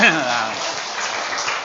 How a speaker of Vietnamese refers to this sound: cho anh tràn pháo tay cho hai người đó.